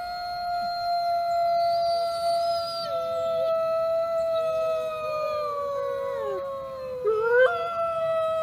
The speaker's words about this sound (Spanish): Su solitario corazón sufría, no por abandonar tan tempranamente este mundo, sino porque se sentía incompleto, y juntando su último aliento, lo elevó en un profundo y desolado aullido hacia la dama en el cielo.